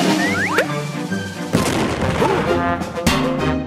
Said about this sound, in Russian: А гриб приближается. Пираты стреляют по грибу из пушки.